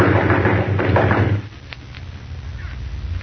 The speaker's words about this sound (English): I'll bang on the door.